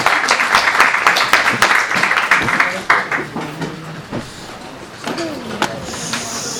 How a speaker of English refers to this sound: Thank you. You got an applause.